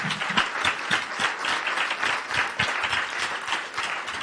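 A crowd applauds steadily for several seconds, a dense wash of many hands clapping at an even loudness, with no voices rising above it.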